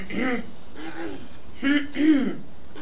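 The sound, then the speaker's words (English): A deliberate throat clearing: several short, voiced hem-like bursts in a loose sequence, the last two a little louder, with brief pauses between them. “Clear your throat.”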